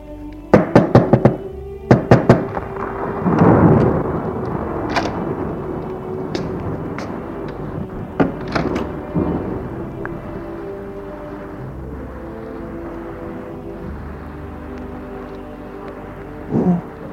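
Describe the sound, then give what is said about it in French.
A thunderstorm: a burst of sharp cracks opens the scene, then a low rolling rumble of thunder swells and fades over a steady hiss of rain, with occasional further cracks and no voices. “Tu aurais pu attendre que l'orage passe avant de venir me voir.”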